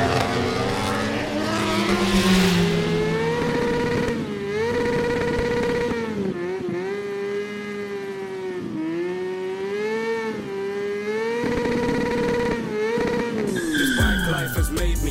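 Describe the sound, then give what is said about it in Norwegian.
A race car engine roars loudly and continuously on the quickest lap of the race so far, its pitch climbing and dipping through gear changes as it accelerates, with a sharp shift in tone near the end. “Yeah, he's putting the hammer down. That's the quickest lap of the race so far.”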